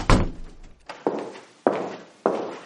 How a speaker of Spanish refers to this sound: Cierra la puerta y siéntese, por favor.